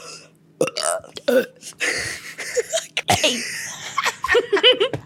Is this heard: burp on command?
yes